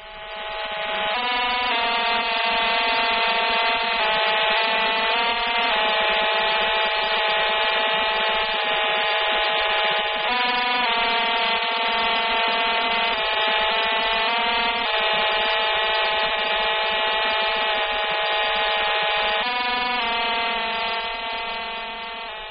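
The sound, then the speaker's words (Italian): A continuous coded radio telemetry signal from an American Injun series satellite: dense, buzzing stacks of steady tones that shift in pattern every few seconds, loud and unbroken for over twenty seconds, with no voices. “I satelliti americani della serie Injun inviano solitamente le loro notizie secondo questo codice.”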